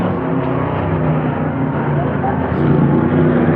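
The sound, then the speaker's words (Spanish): A car engine roars at high speed, loud, holding a steady, rumbling drone with a slight rise in intensity toward the end, during a car chase at full speed. “Kasmar escapa en un auto. Y Calimán lo persigue en el suyo a toda velocidad.”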